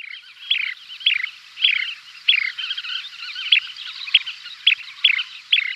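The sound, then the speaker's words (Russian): A small bird, a little larger than a sparrow, chirps in a steady series of about ten sharp, bright calls, roughly two per second, set against a constant high twittering background chorus. No one speaks. “Небольшая красивая птичка, ростом поболее воробья, быстрехонько по камушкам, перебирая ножками, то неожиданно замирая, то срываясь, будто кто подтолкнул ее, семенила к брошенной ей корочке.”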